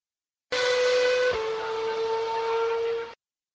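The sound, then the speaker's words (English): An older V8 car engine drones at steady high revs with a whining harmonic tone. Partway through, a brief thump marks the downshift at full speed and the pitch shifts slightly before the engine carries on and cuts off. “Here's a clip of a car downshifting. You may also notice that this is an older V8 engine, so the newer cars will likely be able to shift even faster.”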